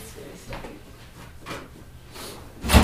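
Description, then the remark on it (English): A door is opened with a few soft scraping clunks, ending in a louder thump of the latch or frame, over a faint background hum. “Maybe if you're hot, when you're open that door.”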